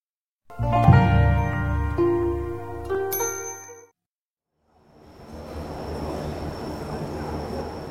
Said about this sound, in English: The dialogue itself, it's happening in the Hong Kong International Airport between two travelers.